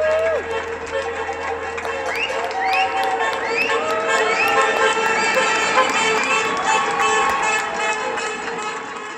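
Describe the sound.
Outdoor crowd in the UK, people out of their houses at 8 o'clock applauding the NHS: continuous cheering with scattered clapping, whoops and rising whistles over a steady noisy bed, some voices calling out.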